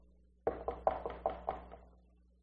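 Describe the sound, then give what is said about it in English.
A quick series of about six or seven knocks on a wooden door, rhythmic, fading slightly toward the end, with no voices; Peter knocking at the door. “Peter now goes up, running up to their door, kind of sneaky, you know, they're still looking for him, and knocks.”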